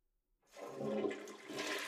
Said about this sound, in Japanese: ほら、よく見ててください。私がレバー引いたら、全部流れちゃうんですよ。